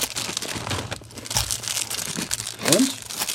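Steady crinkling and crackling of the plastic outer wrapping of a snack being pulled open, with a sharper tearing rustle near the end and faint voice traces underneath.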